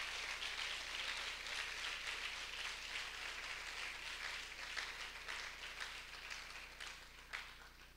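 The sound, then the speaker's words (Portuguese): A crowd claps steadily for the whole stretch, a dense, even wash of many hands with a few sharper claps standing out near the end. No one speaks over it. “aleluia, aleluia, glória a Deus, pode aplaudir.”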